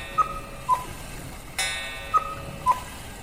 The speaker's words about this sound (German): Können Sie mal die Kuckucksuhr ausmachen? Ich kann mich ja gar nicht konzentrieren.